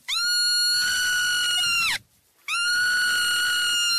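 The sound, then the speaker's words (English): A baby marmot screams twice in long, piercing, shrill calls, each held nearly two seconds with a brief gap between them. The calls are loud, with no talking. “And just for reference, this is what a screaming baby marmot sounds like.”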